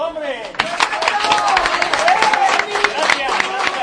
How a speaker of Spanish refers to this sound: No podéis quitar los efectos de los aplausos, sabemos que estáis solos, ¿eh?